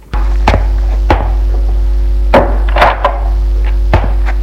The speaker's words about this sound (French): Il la fait entrer et ferme la porte.